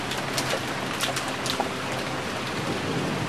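A steady rain shower hisses continuously, dense and fairly close, with a few brighter patters and a faint low rumble underneath; no one speaks.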